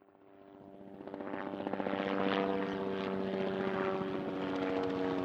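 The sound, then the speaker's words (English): A propeller airplane engine drones steadily, growing louder over the first couple of seconds and then holding a loud, throbbing hum with no voices. “It's in the plane.”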